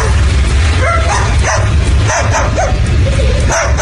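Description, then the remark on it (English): A cockatoo mimics a dog, letting out a run of short, yappy barks and whimper-like yelps, loud over a steady background hiss, with no one talking. “It's a cockatoo. And it's imitating a dog.”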